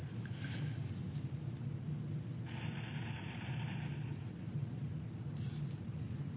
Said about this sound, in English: Let's have a lot of traffic today.